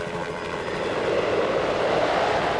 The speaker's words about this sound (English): I'm flying my helicopter.